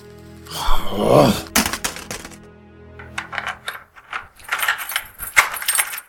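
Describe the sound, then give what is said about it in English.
Crackly rustling of a sheet of paper taken from a desk being crumpled up and thrown into a wastepaper basket, with a brief low groan near the start and a series of sharp crinkling bursts, no talking. “Taking a piece of paper from his desk, he crumples it up and throws it into the waste paper basket.”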